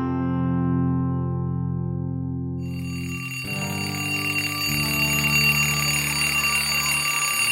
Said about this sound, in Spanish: ¡Ay, al fin el timbre! ¡Sí! Estaba recontra aburrida en esta clase.